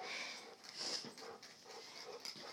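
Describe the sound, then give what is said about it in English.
A puppy makes a string of short, breathy snorts and snuffles, repeating in quick irregular bursts with no talking. “Oh, snort. Snort. Snort, snort, snort.”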